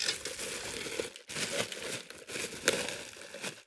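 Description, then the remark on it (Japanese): Loud, continuous crinkly rustling of plastic packaging around a large 1-liter (1000 ml) measuring cup, used for measuring salt into a metal bowl, being handled in several bursts with brief pauses between them and no talking. “ちょっとガサガサ、うるさかったらごめんなさい。”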